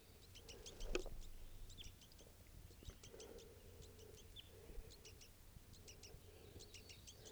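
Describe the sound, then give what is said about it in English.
Wild birds, a family of an adult male with begging juveniles, being recorded, call repeatedly in thin, high-pitched chirps arriving in quick clustered bursts, faint but steady throughout, over a low continuous hum and rumble. No one speaks. “They're recording those birds.”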